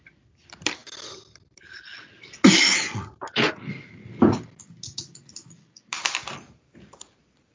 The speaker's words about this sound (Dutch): Ik zie een gast iets typen.